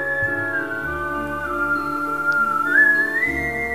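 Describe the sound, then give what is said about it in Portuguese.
A clear, sustained whistled melody glides smoothly up and down in pitch, with soft harmonic background music playing underneath throughout. “Depois, subiu e foi poisar no ramo mais alto da oliveira, enquanto assobiava uma bela e estranha melodia.”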